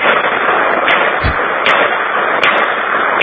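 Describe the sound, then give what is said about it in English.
A single sharp gunshot from a small .22 Jennings pistol, fired in a driveway and heard over the phone, cracks through steady telephone-line hiss, with a brief low thump and a few fainter clicks scattered around it. “That's just a little .22 Jennings.”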